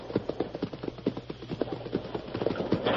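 A heavy hidden door, disguised with scrub and vines, is raised out of a cliff wall on pulleys: a steady run of rapid wooden clacks over a low mechanical hum, moderately loud, with no voices.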